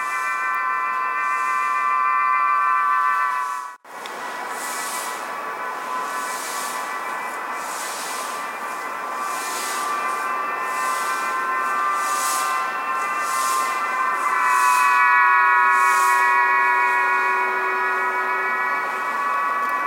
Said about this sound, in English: Flock of pigeons as they circle overhead. One of them carries a whistle. You can hear, and you can hear this all over Urumqi.